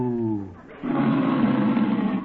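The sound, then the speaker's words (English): A person imitates a cow named Bossy while milking her: a short, low, droning moo, a brief pause, then a louder, rough and breathy lowing that holds steadily for about a second and a half. “Well, does your cow give much milk?”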